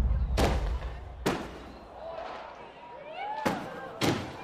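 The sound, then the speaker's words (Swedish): Four sharp firework bangs burst out at uneven intervals, with a thin whistling trail between them and a faint murmur of voices underneath. “Hur länge har vi fyrat av fyrverkerier vid tolvslaget?”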